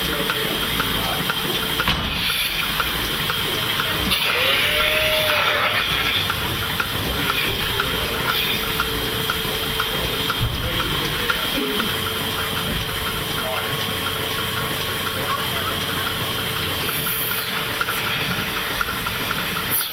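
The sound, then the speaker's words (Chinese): A milking machine's vacuum suction, attached to a cow to draw out its milk, hisses and hums steadily, a continuous mechanical drone with faint rhythmic ticking and no pause throughout; the machine pulses so the cow is not over-milked. “Get the milk out of cow with the vacuum, like a vacuum cleaner, and they suck on for the to get the milk.And they got a pulse in them, so they don't over milk the cow.”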